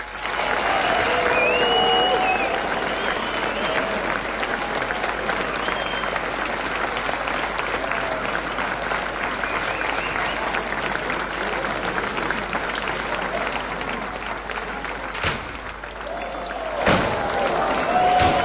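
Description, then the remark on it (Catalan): A large audience gives sustained applause after the opening speech (pregó) of the Festa Major in L'Escala, Catalonia. The applause is loud and dense with steady clapping throughout, with a few scattered cheers and whistles rising above it, tapering slightly near the end. “Aquests aplaudiments, ha acabat aquest pregó entranyable”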